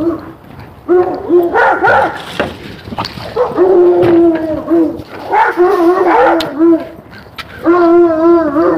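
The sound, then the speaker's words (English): Several dogs on a street bark and howl in overlapping bursts, with long wavering howls and sharp barks, loud and continuous with brief pauses between volleys. “Street of dogs.”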